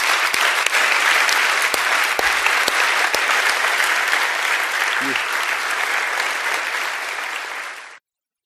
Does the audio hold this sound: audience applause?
yes